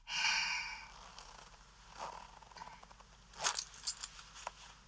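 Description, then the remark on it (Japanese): A trouser zipper is pulled down in a short, raspy burst near the end, after a soft breathy sigh and some quiet rustling as a belt is taken off and the trouser button undone; no one speaks. “そして、チャックを下ろして、”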